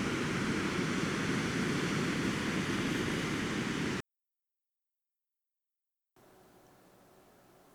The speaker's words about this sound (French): C'est si calme. Il n'y a que le bruit des vagues. De l'eau. Des oiseaux. La répétition du même son. Du même rythme.